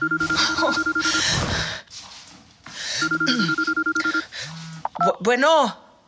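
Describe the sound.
A telephone rings electronically in two long bursts of rapid pulsing tones, a steady high beep over a buzzing trill, with a brief voiced sound at the end.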